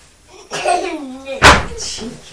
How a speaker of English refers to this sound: Cheeky. You're banging the cupboard door.